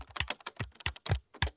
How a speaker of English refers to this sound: Splonk presses some keys on the computer.